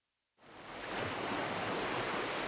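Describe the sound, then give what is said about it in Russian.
After a brief silence, the roar of waves on a restless sea after a storm swells up and holds steady, loud, with a hissing, churning texture and no voices, as the waves wash onto a sandy shore and run back. “Волны, как большие стеклянные горы, набегали на берег и, коснувшись песка, снова отбегали назад.”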